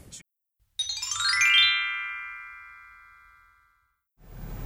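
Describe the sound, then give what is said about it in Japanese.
An incoming phone call ringtone chimes once through a car's FM audio: a quick, bright run of electronic notes that settles into a sustained tone and fades over a few seconds, clear and alone before some rustling noise. “ちょっと FM の中から電話かかってきた。どうなるんだろうこれ。”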